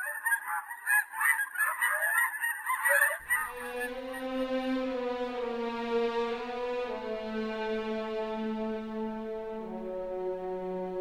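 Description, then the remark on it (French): A flock of geese honks in a loud, overlapping clamor for a few seconds, then gives way to a long, steady droning tone that holds to the end. No one speaks. “Un jour qui rôdait, selon sa coutume, Maître Renard arriva dans une prairie où une troupe de belles oies bien grasses se prélassait au soleil.”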